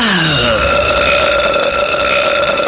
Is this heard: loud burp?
yes